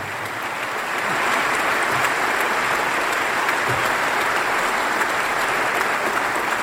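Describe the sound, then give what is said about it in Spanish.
A crowd applauds the speaker's wife and family, clapping steadily for several seconds, a dense, even wash of many hands that swells slightly after the first second and holds at a strong, constant level with no voices. “Se aplaudan a mi señora, mi señor.”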